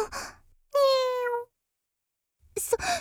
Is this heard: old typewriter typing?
no